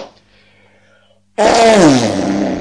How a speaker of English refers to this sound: I'll do the farts, you do the words.